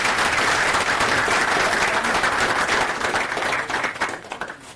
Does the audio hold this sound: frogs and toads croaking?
no